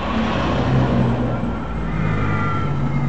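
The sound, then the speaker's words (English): An ambulance pulls in at a crash scene by a creek, its engine a steady, loud rumble with a low droning hum and broad road noise throughout, and no siren sounding. “Here, an ambulance arrives.”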